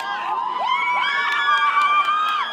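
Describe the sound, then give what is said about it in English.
A crowd in Kenya after the 2007 elections shouts all at once as a woman is dragged into the crowd, many raised voices overlapping in a loud, continuous roar with sharp yells rising above it, steady throughout with no pause. “The woman is dragged into the crowd.”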